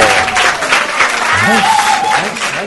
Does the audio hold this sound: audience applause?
yes